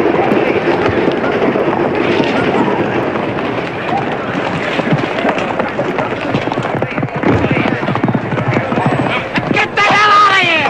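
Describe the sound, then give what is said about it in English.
Loud, continuous clatter of gun-laden wagons racing off, pulled by a riderless, startled horse, hoofbeats mixed with rumbling wheels and rushing noise, with a sharp, rising horse cry near the end. “It's the wagons with all the guns being driven away by a riderless, startled horse.”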